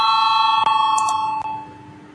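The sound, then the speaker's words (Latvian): A continuous electric voting bell rings loudly and steadily for a couple of seconds in a parliament chamber before a vote, its shrill metallic tone unbroken apart from brief clicks, with no one speaking over it. “Lūdzu zvanu, balsosim par otro deputāta Valaini priekšlikumu.”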